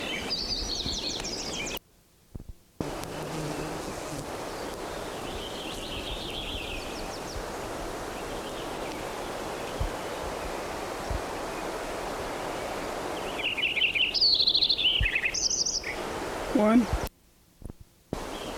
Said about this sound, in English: Lincoln Sparrow number 9.